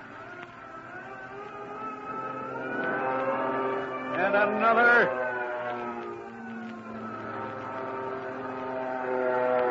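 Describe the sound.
A steady droning engine roar of fighter planes, swelling to a louder pass midway before continuing, with a man briefly speaking over it.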